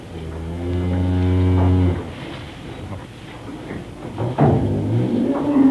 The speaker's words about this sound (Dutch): Wat doet hij? Laat hij een koe loeien. Dat is toch verkeerde geluid, man.